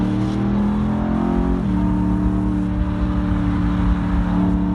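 A 530-horsepower V8 engine of a four-wheel-drive sports car roars on the road as it accelerates, a loud, rich growl that dips briefly at a gear change before pulling on steadily.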